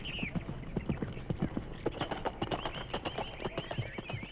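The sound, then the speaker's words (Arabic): A horse's hooves clip-clop as it goes off, in a steady, brisk rhythm, many sharp hollow knocks in quick succession at a moderate, fairly even loudness, with no voices. “وهكذا يا أحباء ذهب الحصان ليبحث عن قرود، لأنه فعلا كان يعرف المكان الذي يختبئ فيه.”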